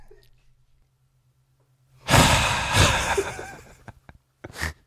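After a near-silent start, someone draws a long, loud breath in through the nose, then gives a short, sharp nasal puff moments later. No talking.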